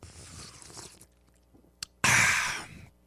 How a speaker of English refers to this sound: I have a glass of water here, which I need, and I'm going to have another sip. In fact, I'm going to have that one on the air now in honor of you, 2288.